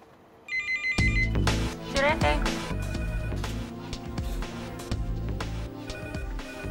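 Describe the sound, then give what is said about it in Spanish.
Several telephones ring at once as police receive hundreds of calls, their electronic tones overlapping into a dense, continuous clamor over a low rumbling bed, loud for the whole stretch. “Cuando la información sobre Resala llega al público, la policía recibe cientos de llamadas.”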